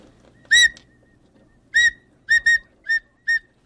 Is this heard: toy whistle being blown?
yes